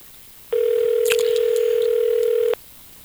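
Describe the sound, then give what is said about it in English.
A single steady ringback tone of about two seconds, like an outgoing phone call ringing on the line, clear and fairly loud against a quiet background with no talking. “Well, we're ringing.”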